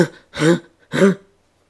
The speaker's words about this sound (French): Marquis là, le cou tendu, le corps secoué par une toux convulsive.